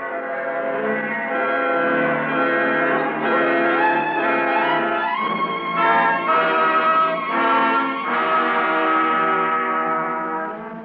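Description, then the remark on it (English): Church bells ring out in a continuous, overlapping peal, rich with ringing overtones, with fresh strikes every second or two and no voices. “Christchurch bells, she said, made a lordly sound.”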